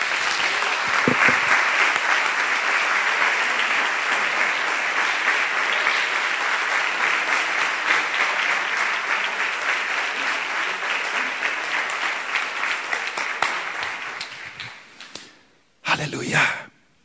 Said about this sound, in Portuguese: Jesus Cristo é o Senhor. Amém? Eu queria dar um aplauso para Jesus, dá uma vontade.